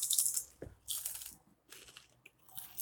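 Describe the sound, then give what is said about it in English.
Crunching as a Patachioppi fish chip is bitten and chewed, with four sharp, crackly bursts in quick succession and no voices. “Crunch seems good.”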